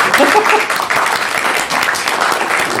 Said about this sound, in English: Applause!